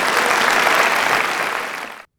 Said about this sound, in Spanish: Le das un aplauso al Señor en este día.